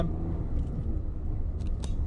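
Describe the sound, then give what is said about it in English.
A steady, heavy low rumble of road traffic rolling past, with a few faint higher clicks and ticks on top and no voices. “Traffic's moving now, but you'll probably still be able to hear me.”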